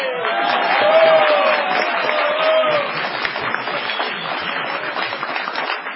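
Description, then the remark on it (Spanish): The audience at the Caras y Caretas show gives a sustained ovation greeting Gillespie's absence, dense clapping roaring steadily the whole time, with a couple of brief high whistles cutting through early on before the applause settles slightly softer. “Con la gran ovación saludó la ausencia de Gillespie, por razones que no nos ha sido dado conocer.”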